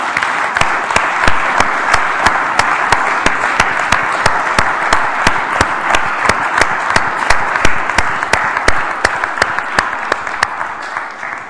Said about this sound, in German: Vielleicht können wir an der Stelle einfach mal Gott einen Applaus geben als Erntedank.